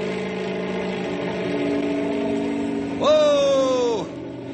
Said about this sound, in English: If the copter vibrates a lot, don't think it's falling apart. I'm going to have to rev it up for better stability. Here we go. How's it look? Fine. I'll take the copter straight up.